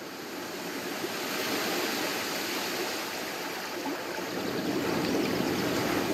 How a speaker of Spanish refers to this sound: Se siente el sonido del río, se siente el sonido de las olas del mar de fondo, el canto de las aves. Y ahora estamos entre la Sierra Nevada y el Caribe. Estamos en Palomino, en un encuentro mágico entre el río y el mar.